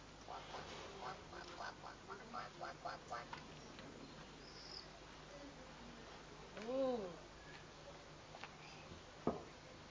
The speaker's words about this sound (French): Il fait comme quoi le canard?